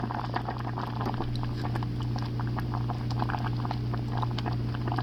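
Thick porridge bubbles and pops continuously in a pot as it cooks, a dense patter of soft bursts over a steady low hum, with no talking.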